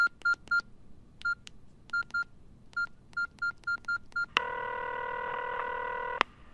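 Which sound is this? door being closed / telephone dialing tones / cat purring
telephone dialing tones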